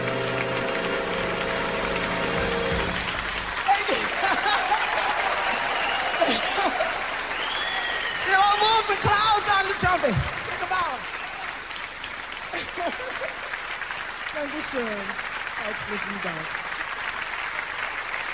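A crowd applauds steadily for the whole stretch, a dense wash of clapping that swells in the middle, with scattered whoops and shouts rising over it before it settles to a steady roar.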